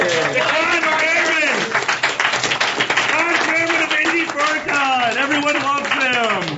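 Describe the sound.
A steady round of applause runs throughout, dense clapping mixed with loud cheering and whooping voices from a crowd, staying at a constant, energetic level from start to finish.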